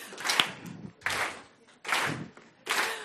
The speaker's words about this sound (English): Maybe you can just try and follow along. Oh, all right, all up again. Let's start with our clap. Here we go.